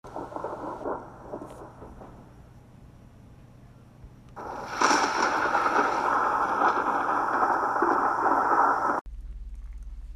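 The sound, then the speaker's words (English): A stormy roar of wind and heavy pouring rain, rumbling low at first, then surging louder and hissing steadily before cutting off abruptly near the end. “This led to many people having to leave behind their homes and search for a place of shelter while this wind kept on howling and the rain kept on pouring.”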